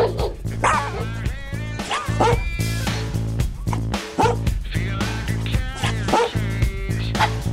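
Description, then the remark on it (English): Dogs bark and yip repeatedly over steady background music, reacting to the tune. The loud, sharp barks come in frequent bursts throughout, some rising into higher-pitched yelps. “The dogs are digging the tune.”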